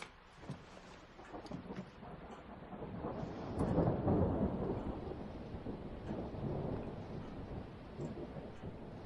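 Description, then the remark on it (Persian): Heavy rain pours down steadily in a dense, hissing wash, swelling with a deep rumble around the middle before settling back into a constant downpour. No one speaks. “با دوچرخه اومدم، بارون خیلی شدیده.”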